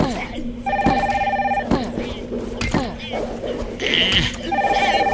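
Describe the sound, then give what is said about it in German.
A phone rings with steady electronic tones in repeated bursts, fairly loud, and is left unanswered, while sharp clicks and knocks sound in between and a voice talks briefly. “Das ist hier Telefon, kann ich gerade nicht gebrauchen.”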